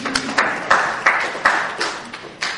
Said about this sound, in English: Medicare. Good. Who said that? A little bit of applause.